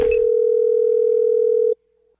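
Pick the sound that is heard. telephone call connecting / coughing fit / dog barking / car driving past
telephone call connecting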